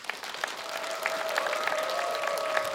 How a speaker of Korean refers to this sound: 여러분 큰 박수 환호 부탁드리겠습니다.